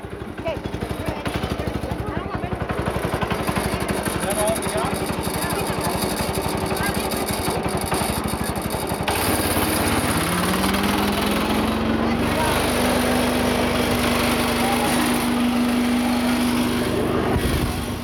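A loud, steady mechanical engine drone runs throughout, with a rattling clatter and a rising whine that settles into a sustained hum partway through, as a wheat thresher separates hand-harvested wheat, taking the stalks away from the wheat berries while students watch.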